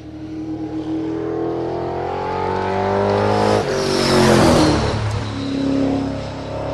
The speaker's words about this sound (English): That's Phil Scott doing some practice laps on the quarter-mile track at Thunder Road.